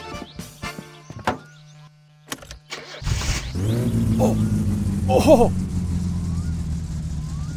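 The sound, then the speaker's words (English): A few mechanical clunks and clicks, then a car engine, just repaired with a new rocker shaft, cranks and catches at about three seconds, settling into a steady, loud rumbling idle. A man's excited exclamations rise briefly over the running engine. “It runs!”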